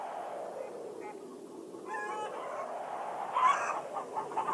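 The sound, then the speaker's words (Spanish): Several hens cluck and murmur in short harmonic bursts in a henhouse over a steady background hum, with a louder squawk near the end, moderately loud. “Lo llevó a su casa y lo metió en el gallinero. Allí creció junto a las gallinas, los patos y los pavos.”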